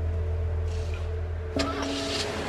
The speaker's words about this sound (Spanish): se subió a su auto y condujo a toda velocidad hasta su casa.